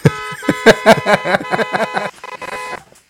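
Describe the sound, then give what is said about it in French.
Car horns honk repeatedly in busy traffic on the périphérique ring road, in short overlapping loud blasts, with a steady tonal drone underneath and a few fainter toots at the end. “Ah, ouais, on a du mal à l'entendre, dis donc, ça klaxonne.”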